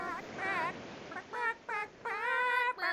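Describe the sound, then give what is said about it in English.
Chickens cluck and squawk a song in a string of pitched, drawn-out bursts, about six in three seconds. The calls rise and fall following the tune, loud with no talking. “So … as done by chickens.”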